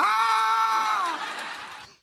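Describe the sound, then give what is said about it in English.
A single loud, sustained human scream, high and strained, holding steady for about a second before trailing off and fading out. No one speaks. “Just loud screaming just in their scream ear. Scream and yell.”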